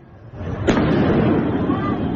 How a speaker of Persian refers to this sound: این هم ویدیویی است که نشان می‌دهد انفجارهای داخل زندان اوین احتمالاً به علت شلیک پرتابه‌های نامشخص بوده است.